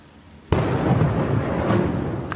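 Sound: thunder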